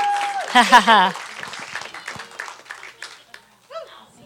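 An audience bursts into applause for the next speaker being introduced, a dense patter of hand clapping topped early by loud, rising whoops and cheers, then fades to scattered claps and a final short cheer.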